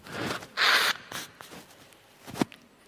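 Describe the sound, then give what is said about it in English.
A person with a cold blows their nose, a short, forceful, loud hissing honk lasting under half a second, followed by a few soft rustles and a quick sniff. “So I've got a cold, I just need to blow my nose.”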